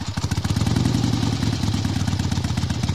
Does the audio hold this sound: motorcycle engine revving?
yes